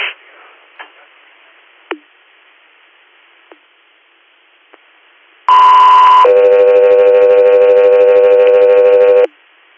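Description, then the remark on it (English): A few faint clicks over a quiet line, then a loud two-part alert tone: a short high pitch followed by a longer lower sustained tone, a radio dispatch page to the Guthrie Air medical flight service, heard alone. “Guthrie Air, stand by for tones.”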